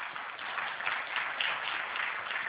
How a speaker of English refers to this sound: Of you who name the name of Christ as Savior today by applause, would you agree that Jesus has changed your life for the best? Would you applaud if you agree with that?